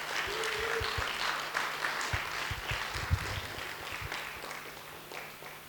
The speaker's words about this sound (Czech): děkuju holkám, zatleskejte jim, prosím, asi si můžete.